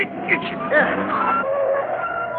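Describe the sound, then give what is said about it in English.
A car brakes hard to a sudden stop in the middle of the road, tires letting out a shrill, wavering squeal over a rumbling engine, loud, lasting a couple of seconds. “Stops in the middle of the road.”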